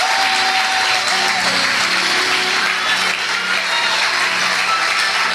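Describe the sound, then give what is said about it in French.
A crowd claps steadily and densely for several seconds, a bright continuous wash of applause with faint tonal sounds and voices blended underneath, cheering for the women in the morning. “Est-ce qu'on peut acclamer pour les femmes ce matin?”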